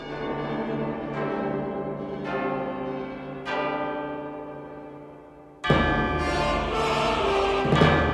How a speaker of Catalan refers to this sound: Al mapa turístic he vist que aquest monument que hem passat és la catedral de Notre Dame. Sí, aquí viu un home amb un gep enorme. Es diu Quasimodo i es dedica a tocar les campanes de la catedral.